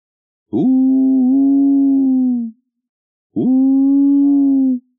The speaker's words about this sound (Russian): Конечно же, это снова филин мечется по лесу в поисках добычи.